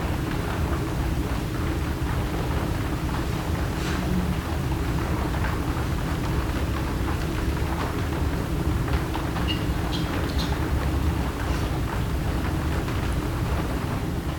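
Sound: rain falling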